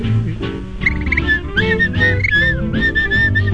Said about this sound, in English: I love to whistle, 'cause it makes me merry, makes me feel so very.